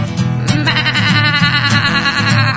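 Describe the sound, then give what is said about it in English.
A sheep bleats loudly and close up, one long quavering baa with a shaky, vibrating tone that carries on for a couple of seconds, with no talking over it. “My mom has got a sheep on her head. She keeps it there all day.”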